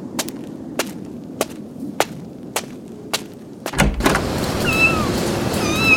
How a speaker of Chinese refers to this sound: 你听错了，不是小孩，是小猫，放心吧。